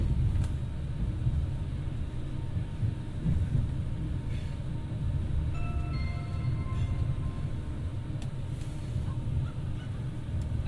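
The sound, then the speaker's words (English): A passenger train arriving into London Euston, where it terminates, rumbles steadily along, heard from on board, with a continuous low roar and a few faint high-pitched squeals midway through. No one speaks. “I'm arriving into London Euston when this train terminates.”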